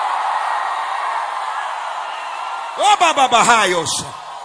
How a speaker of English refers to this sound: I need 60 people in the tent, outside, in the building, to scream like you lost your mind.